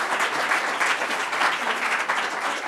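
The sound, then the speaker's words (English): An audience claps steadily, a dense wash of many hands producing sustained, moderately loud applause with no pauses and no voices standing out. “And you guys should all give yourselves a round of applause because you guys really did a good job.”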